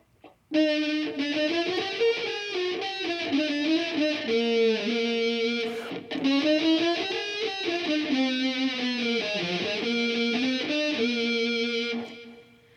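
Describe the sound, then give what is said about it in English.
A heavily distorted, fuzzy tone like an overdriven electric guitar, made by a computer distortion plug-in, plays for about eleven seconds, loud, its pitch sliding and wavering with a brief break midway. “So the computer is distorting the sound and making it sound kind of like a fuzzy electric guitar.”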